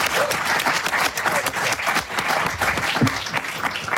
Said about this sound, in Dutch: Mag ik een heel groot applaus. Ryan Pandey, dames en heren.